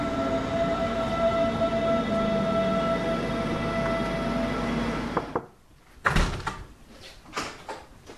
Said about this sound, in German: Also ab in die S1 und raus nach Freising zum Campus Weihenstephan. Information zu S1 nach Freising, Abfahrt 10.21 Uhr. Heute circa 10 Minuten später und von Gleis 2.